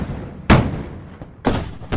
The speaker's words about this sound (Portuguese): Mas logo ao lado ficava o Palácio Episcopal, e os bispos não curtiram muito aqueles tiros de canhão que faziam a parede tremer no alto do morro.